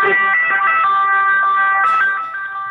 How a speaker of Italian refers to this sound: Devi aspettare un attimo perché l'ambulanza è fortissima.